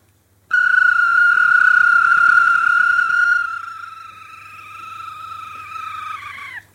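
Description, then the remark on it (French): A person imitates a nightjar's churring call by whistling while rolling a French R: a single loud whistled, buzzing trill held steady in pitch for about six seconds, softening midway and dipping at the very end. “Engoulevent. Ah, c'est ça.”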